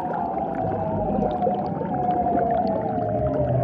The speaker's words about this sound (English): The lady seals apparently couldn't get enough of these eerie sounds, which is why they evolved into such long, elaborate displays.